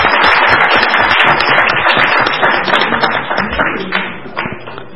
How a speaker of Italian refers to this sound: Gli diamo tutti il benvenuto e le auguriamo buon lavoro. Ok, anche un applauso.